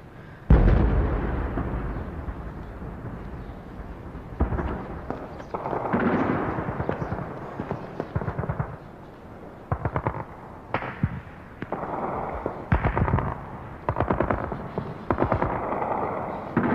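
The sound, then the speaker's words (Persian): Artillery and mortar fire and explosions: loud, irregular bursts of booms and sharp cracks follow one another in rapid succession, some rumbling briefly before the next blast, with no voices heard. “خدا کنه این آتیشه رو دسته محسنینا نباشه.”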